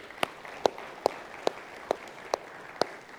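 A round of applause in a church for two elders thanked for serving, with about seven sharp claps landing in a steady, even rhythm over a soft, continuous hiss of background clapping. No one speaks.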